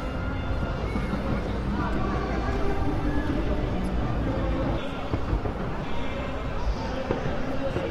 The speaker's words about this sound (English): I hear explosions, and I assume that fireworks coming from somewhere. I don't see them. That sound is. I don't know. Maybe it's bass or something. I don't see any light. Usually with fireworks, you see light.